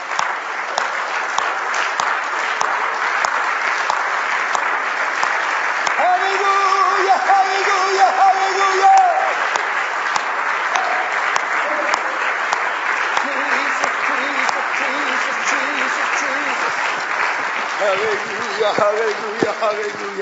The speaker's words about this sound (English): Let's stand and clap our hands for heaven, shall we? Hallelujah, hallelujah, hallelujah.